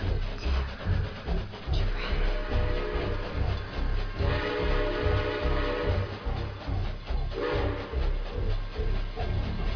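A train rumbles steadily along the tracks with a rhythmic clatter of wheels, while its horn sounds in two long, loud blasts over the rolling noise.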